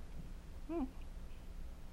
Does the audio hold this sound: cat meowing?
yes